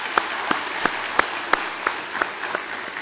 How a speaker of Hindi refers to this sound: उसका अगर श्रेय किसी को जाता है तो इन ड्रिल इंस्ट्रक्टर्स को जाता है। इनके लिए जोरदार तालियां।